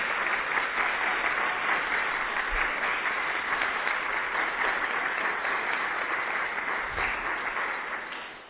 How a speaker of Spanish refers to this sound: Y yo aquí quiero solicitar un fuerte aplauso para el gran trabajo que ha hecho Yac México en la incidencia de estos problemas para las juventudes, para México.